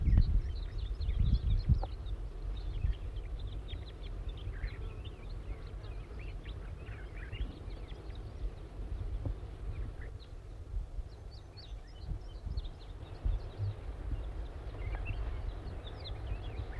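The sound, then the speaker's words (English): A captured wild juvenile crossbill gives repeated thin, high chips and short calls at an irregular pace, fairly faint, over a steady low rumble of wind. “It's recording the bird that was captured is calling now. This is still the wild juvenile.”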